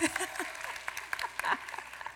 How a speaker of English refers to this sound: Clap once if you hear my voice. Clap twice if you can hear my voice. Clap a lot if you hear my voice.